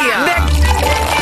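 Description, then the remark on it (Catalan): Cava is poured into glasses for a toast in a short, fizzy pour with a rising filling tone, while people talk and murmur. “va, posa una mica de cava i brindem, no?”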